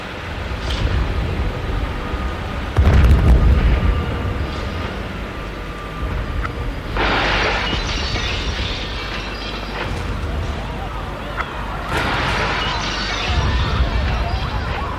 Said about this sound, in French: Tout d'un coup, il y a une explosion.